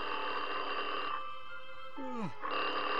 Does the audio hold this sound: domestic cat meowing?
no